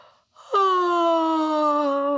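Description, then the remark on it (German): A person imitates the yawn of Pfote, a tired rabbit child in a children's story: a quick breathy intake, then a long, drawn-out voiced 'aaah' that slowly sinks in pitch, fairly loud, with no other sounds. “Gähnt Pfote, dann reckt und streckt sie sich, hoppelt zu ihrem kleinen Bettchen, kuschelt sich ein und macht ihr Mittagsschläfchen.”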